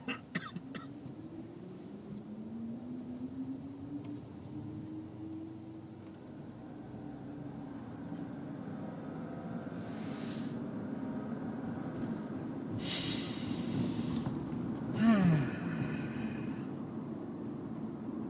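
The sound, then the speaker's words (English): Steady low engine drone inside a moving car, with a faint tone that rises and falls as the engine revs. A few short, harsh bursts, like coughs, break in toward the end. “now here I am in this car.”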